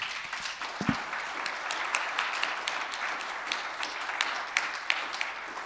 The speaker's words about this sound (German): ich glaube, du kriegst jetzt einfach nochmal einen dicken, fetten Applaus von uns.